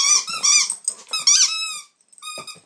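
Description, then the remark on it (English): A dog squeezes a squeaky toy, producing a rapid series of high, wheezy squeaks in quick bursts, close and fairly loud, with a soft growl underneath and a brief pause before a final squeak. “Kill it. Kill it. Squeak, squeak. Squeak, squeak. What you got?”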